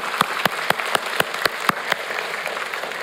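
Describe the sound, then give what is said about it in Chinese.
An audience applauds for the leaders and co-workers of ten small groups at a fifth-term Happiness Group celebration. The clapping falls into a steady rhythmic beat for several strong claps before loosening into softer, scattered clapping; moderately loud with no voices. “我们为这10个小组的辅长跟幸福同工，我们为他们鼓掌，为他们感谢。”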